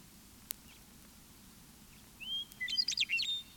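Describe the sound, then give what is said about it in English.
A meadowlark perched on a pole sings a short phrase of clear, flutelike whistles and quick warbling notes after a quiet pause, heard alone over a low, steady background rumble. “Three sparrows have come to rest atop the pole on which the meadow lark sings.”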